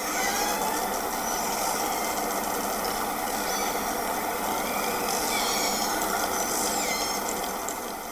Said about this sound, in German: Eine Herde Orcas, die mit Echoortung ihre Umgebung inspizieren und dabei miteinander klönen.